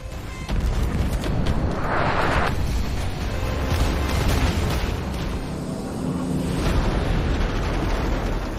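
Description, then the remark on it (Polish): Heavy naval cannon fire from the battleship Bismarck returning fire, with explosions: a dense, continuous rumbling roar punctuated by several loud booms and bursts, with no voices present. “Bismarck odpowiedział ogniem i był to ogień druzgocący.”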